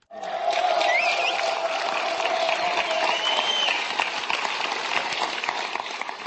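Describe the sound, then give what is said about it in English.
A crowd cheers and claps loudly and steadily for several seconds at the headquarters of the Czech party Topo 9 as general election results come in, a dense roar of applause with a sustained shout and sharp whistles rising above it. “Cheers echoed through the headquarters of the recently formed party Topo 9 as the general election results came in on Saturday afternoon.”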